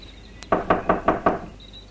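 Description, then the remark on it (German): Five firm, evenly spaced knocks on a wooden hut door, each a sharp, resonant thud, following a brief click, with no voices present. “Holla, die Waldfee, was für eine krasse Hütte. Lass mal anklopfen.”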